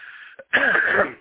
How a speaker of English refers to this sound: excuse me, I have a cough because I'm still overcoming the flu.